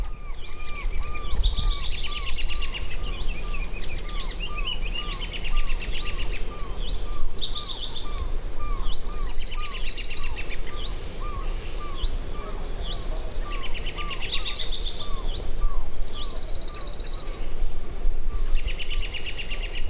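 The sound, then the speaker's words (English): A lively chorus of bright, chirping birdsong with repeated trilling phrases, and a faint, steady series of soft hoots from a pygmy owl far in the background. “But later when I was listening to it, I went, oh, there's a little pygmy owl way in the background.”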